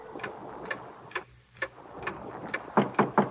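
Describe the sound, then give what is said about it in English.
A clock ticks steadily, sharp dry clicks at an even pace over a faint hiss, growing louder and closer together in the final second. “Mostly, the man watched the clock.”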